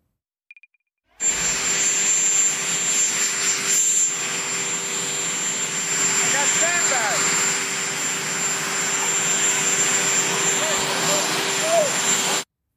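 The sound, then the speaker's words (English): A helicopter's turbine engine runs loud on a lawn after the president came off it, a steady roaring whine with a high tonal hum that holds unbroken for about eleven seconds. Faint voices can be heard beneath it. “We should note, though, that he banged his head coming off of the helicopter just moments before that.”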